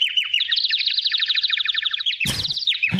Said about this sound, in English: And somebody mentioned that after a rain, the birds really start yelling at each other because there's all kinds of food coming up. I have good birds. Here, this is my... You have birds in Austin? Yeah, listen.